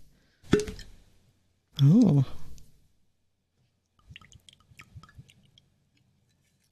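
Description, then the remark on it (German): A drink is poured over ice cubes into a glass, with a sharp knock at the start, a brief exclaimed voice, then a quiet run of plops and light clinks. “Aber Ich gebe jetzt noch einen drauf, ja? Ja. So. Sehr schön, mit Eiswürfel.”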